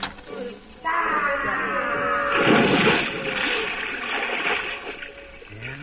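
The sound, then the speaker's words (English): A loud splash into a huge pot of boiling water, followed by a few seconds of churning, bubbling water, fairly loud, with no clear talking over it. “They've got a huge pot of boiling water out, and they'll boil any white man alive.”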